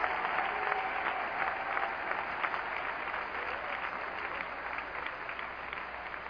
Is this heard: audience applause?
yes